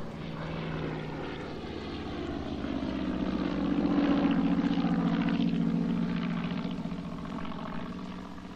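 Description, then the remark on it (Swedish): An early propeller plane's three-cylinder radial engine, with air-cooled cylinders in a semicircle, designed by Dane Nils Petersen and making about 50 horsepower, drones steadily on its own. It is a throbbing, harmonic rumble that grows louder toward the middle, then eases slightly without fading away. “Motorn var konstruerad av danske Nils Petersen och den hade tre luftkylda cylindrar i en halvcirkel. Den utvecklade cirka 50 hästkrafter.”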